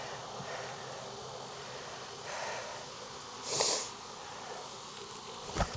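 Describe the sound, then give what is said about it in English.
A steady, low hum of honey bees buzzing around a beekeeper working a hive frame fills the background, with a brief rustling burst midway as the beekeeper drops the bees and a sharp knock near the end; no one speaks. “And I just dropped all the bees.”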